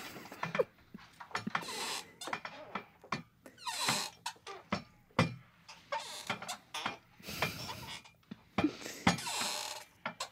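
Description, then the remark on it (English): A person makes a rapid, uneven string of squeaks and clicky chirps with their voice, some rising and falling in pitch, imitating whale calls for about ten seconds with no talking. “Just make a bunch of squeaks.”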